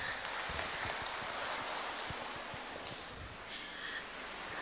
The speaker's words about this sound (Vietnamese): Nhưng xin một tràng pháo tay ạ.